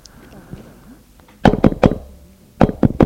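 knocking on a door

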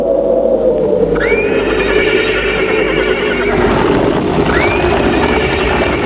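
horse neighing

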